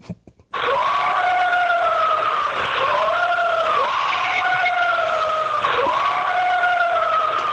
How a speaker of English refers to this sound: Because I heard that, and that scream is really, really creepy. Real creepy scream. You mean this scream?